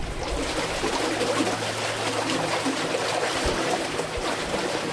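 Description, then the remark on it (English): Water flows steadily through an irrigation canal in California's Imperial Irrigation District, a continuous rushing and trickling with faint low rumbles beneath, loud and even throughout with no voices. “The sound of the water is very relaxing.”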